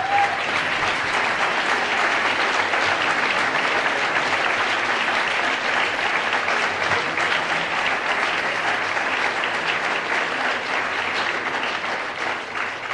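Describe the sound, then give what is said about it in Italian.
Steady, dense applause from an audience at an event in Barga, many hands clapping at once in a continuous loud wash that holds for the whole stretch and eases slightly at the very end. “Un applauso per loro.”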